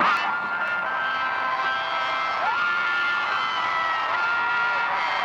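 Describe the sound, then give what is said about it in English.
A large concert crowd in a dark arena cheers and whoops in a continuous, loud roar during a slow song while sustained harmonica notes of a harmonica solo ring through the noise, with no break in the cheering for the whole stretch. “The crowd loves a harmonica solo.”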